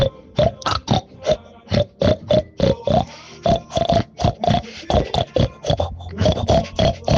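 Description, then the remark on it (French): A person loudly imitates a pig for the pig-squeal contest of the pig festival in Bourg-en-Bresse, letting out a rapid string of short, throaty oinks and squeals in quick rhythmic bursts, without any talking. “Ça, c'est un avant-goût de ce que vous pourrez entendre et voir donc dimanche matin à Bourg-en-Bresse, sous le marché couvert, le concours du cri du cochon pendant cette fête du cochon à Bourg-en-Bresse.”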